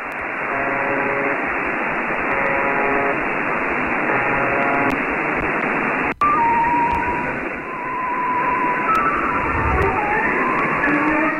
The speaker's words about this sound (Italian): Attenzione a cadere dalla sedia, perché di nuovo si interrompe il buzzer. Silenzio, rumore di passi. E parte il Lago dei Cigni di Tchaikovsky.